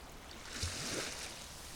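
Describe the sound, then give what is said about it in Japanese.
Water flows steadily in a continuous, even rush, like a stream surrounded by greenery, holding a constant hiss with slight bubbling swells and no voices. “水の音と緑に囲まれてます。”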